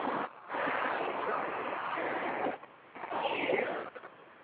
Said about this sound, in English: Are you getting your hair washed? What's going on over there? It sounds like some water or something.